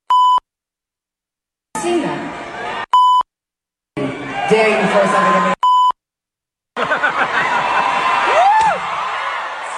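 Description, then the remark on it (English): Three loud, clean censor bleeps cut into a live concert recording, alternating with bursts of a singer on stage speaking over a noisy, cheering crowd, warning fans not to throw things at her. Each bleep abruptly replaces the sound around it. “There were a fair amount of beeps in there, but she basically said, you throw something at me, I'm going to effing kill you.”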